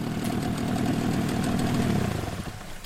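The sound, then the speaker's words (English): An outboard boat motor idles in water too shallow to go on, with a steady, low chugging rumble and faint rattling, easing off slightly near the end. No one speaks. “We're close to Anderson's house, but the water's just a little bit too shallow for the outboard motor.”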